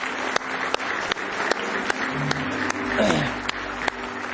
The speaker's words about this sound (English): Do you appreciate it with all your heart? Amen. Give him one more hand clap of praise.